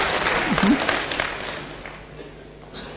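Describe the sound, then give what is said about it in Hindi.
An audience breaks into applause, a dense wash of many hands clapping that starts strong and gradually thins out over a few seconds, with a brief voice audible near the start. “देखो ताली बजाते मतलब कि सर आपका भ्रम है।”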